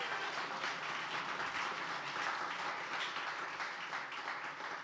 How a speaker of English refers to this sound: Let's give him a big round of applause before we pray.